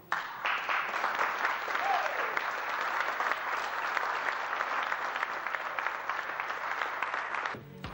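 Sustained audience applause fills the room, a dense, steady wash of clapping from a sizable crowd that holds at an even level for several seconds before cutting off abruptly.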